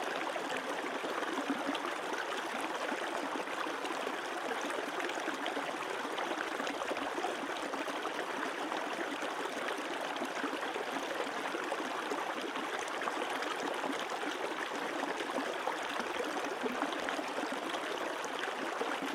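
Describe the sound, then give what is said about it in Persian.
A stream flows steadily and continuously, its water rushing and babbling at a constant level with no pauses. No voices are present, just the even wash of moving water throughout. “لبخند بزن و تمام آگاهیت رو به صدای آب متمرکز کن.”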